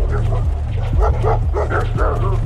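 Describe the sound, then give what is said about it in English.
Several dogs bark in quick, repeated bursts, their yelps overlapping against a steady low rumble in the background. “When they got about halfway there, they could hear dogs barking.”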